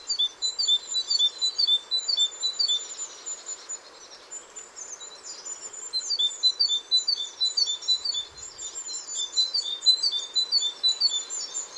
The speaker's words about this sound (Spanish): Cuando la lluvia cesa, todos se animan y las mismas especies empiezan a cantar. Primero, un carbonero.